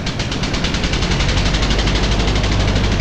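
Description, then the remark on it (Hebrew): A twin-turbocharged V6 car engine with rear-wheel drive and 370 horsepower roars loudly, a dense, steady growl with rapid rhythmic pulsing and heavy rushing noise throughout, with no voices. “מנוע V6 זה כבר עושה טוב בקישקס.”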